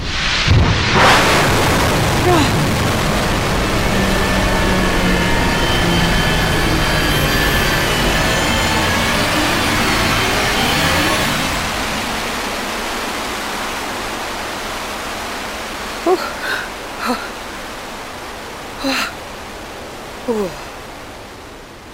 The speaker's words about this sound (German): der Raketenstart ist ja schon auch ein bisschen Comic